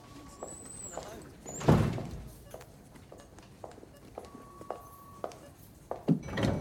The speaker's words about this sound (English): A lift door opens and she finds herself face to face with Dr. Hasnat Khan.